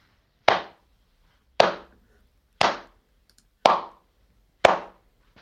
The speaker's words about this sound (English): Some final business for you is that we've had some applause through. Here it is.